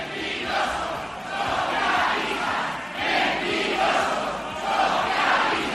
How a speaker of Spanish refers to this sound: Socialistas mentirosos, eso es lo que gritaban los manifestantes en una concentración que había sido convocada por Unión del Pueblo Navarro este mediodía,